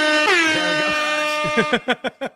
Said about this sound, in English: That was way louder than I expected. Sorry. I don't have an air horn. That is one sound effect I don't have. You know what I'm going to do for the loudness of that air horn?